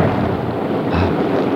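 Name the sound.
storm with rain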